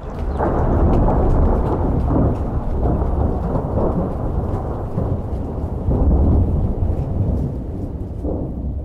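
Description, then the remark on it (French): Deep, continuous thunder rumbles loudly for several seconds over a steady wash of rain, swelling in places, with no voices present. “Si la nuée est presque impossible à voir, on peut entendre son cri strident qui imite le bruit du tonnerre et fait basculer dans la folie ceux qui l'écoutent trop longtemps.”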